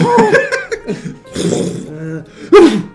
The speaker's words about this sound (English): I might have to blow my nose when I'm in here. So get out of the way now, baby.